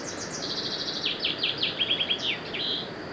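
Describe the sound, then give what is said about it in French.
A small bird sings a rapid series of high, bright chirps and descending trills, clear, over a soft steady background hiss with no one speaking. “Il y a un oiseau.”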